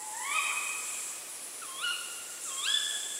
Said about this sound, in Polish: Puszczyki, dlatego że to ich gody powoli zaczynają się i tutaj jakieś szamotania, przepychanki, wysokie piski to samice, niższe, dłuższe pochukiwania to oczywiście samce.